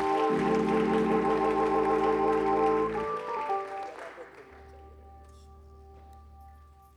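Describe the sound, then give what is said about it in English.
An audience at a church service claps in praise for several seconds over sustained organ chords as people are seated. The applause tapers off around the midpoint, leaving the held keyboard tones and a low hum. “Give them one more hand clap of praise as you're seated tonight.”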